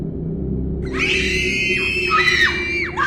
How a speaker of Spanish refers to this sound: Estaba del otro lado de la clínica cuando oí los gritos. Gritaban los niños y la mujer.